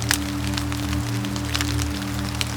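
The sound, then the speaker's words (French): On a mountain, water droplets patter and splash onto the fallen dead leaves of deciduous trees lying on the ground, in scattered, irregular ticks over a steady low hum, with no voices. “éclaboussent les feuilles mortes des feuillus gisant au sol.”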